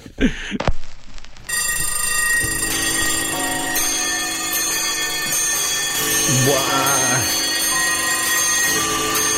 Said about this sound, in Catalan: Escolteu, els rellotges.